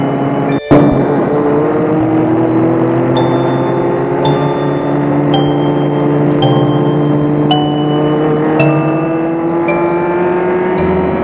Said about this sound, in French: La voiture quitte la grande route. Elle prend une petite route.